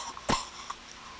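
One short, soft cough stands alone against a quiet background, followed a moment later by a faint small click.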